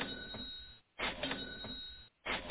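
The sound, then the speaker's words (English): A cash register sound effect plays as loud, clattering mechanical bursts, repeating three times with brief silent gaps between them. No one speaks. “Oh, wow. Oh, yeah, the bank's open, baby. We're going to be cashing dollar signs the entire time.”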